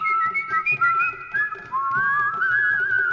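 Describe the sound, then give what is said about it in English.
A person whistles a wandering tune, the pitch gliding up and down and the loudness swelling and dipping, with a faint rhythmic patter underneath and no talking. “there were blacks lounging against the walls, sort of looking at whites as the whites were walking along the streets and whistling. And then just doing interesting little things with the pitch and with the volume of the whistling.”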